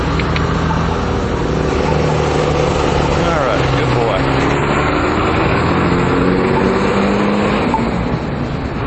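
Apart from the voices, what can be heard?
street traffic passing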